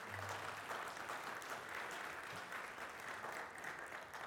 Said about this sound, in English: Yeah, let's give them a round of applause, huh?